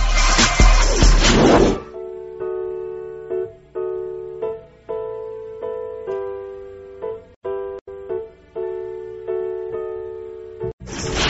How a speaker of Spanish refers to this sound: Vamos a hacer un breve puente musical y regresamos. Quédense con nosotros.